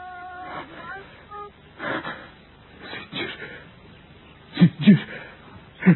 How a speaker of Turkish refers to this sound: Allah Allah, Allah Allah. Boğuluyor sanki, nefes alamıyor. Uyandırayım şunu.